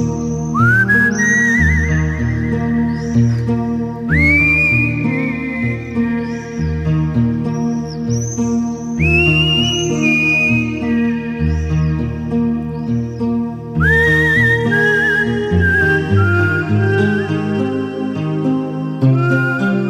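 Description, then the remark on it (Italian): Someone whistles a bright, continuous melody with sliding notes over a full instrumental backing, the tune loud and upfront for the whole stretch. “e sono sicuro che ora mio padre, da lassù nel cielo, finalmente ride e fischia come solo lui sa fare.”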